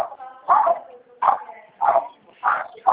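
dogs barking

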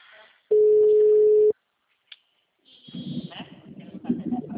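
telephone ringing tone

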